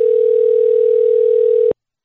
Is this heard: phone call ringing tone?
yes